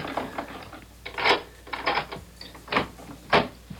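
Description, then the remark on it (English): An apartment door is unlocked and opened: a series of sharp metallic clicks and rattles from a key and latch, arriving in uneven bursts over a quiet background with no voices. “hold the groceries while I open the door.”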